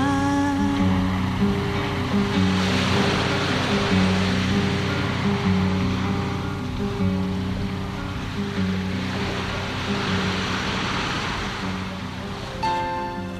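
Ocean waves surge and recede in two broad swells, loud, over a steady bed of sustained musical tones with what may be a faint voice beneath.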